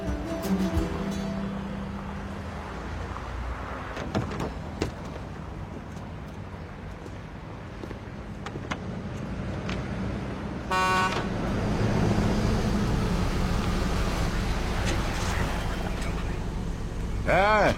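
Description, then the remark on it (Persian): A car engine rumbles steadily throughout, with a brief horn-like toot partway through and some indistinct voices mixed in with the motor noise; the car has just been repaired, its exhaust rebuilt from recycled scrap iron. “چه عجب ماشین تو درست کردی.”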